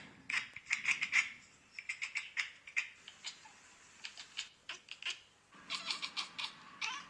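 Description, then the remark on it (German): Several cats at a window chattering at birds they cannot reach, making hunting sounds: quick bursts of dry, rapid clicking chirps repeat in short volleys with brief pauses, fairly soft, with no talking. “Cats Chirping and Chattering, Cat Compilation. Nach dem Motto, dass Katzen Vögel imitieren, oder?”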